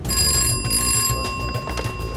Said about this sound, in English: … answers the phone.